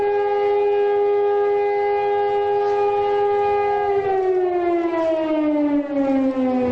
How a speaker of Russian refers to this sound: В 11 часов по ближневосточному времени прозвучала траурная сирена, возвестившая о начале памятных церемоний.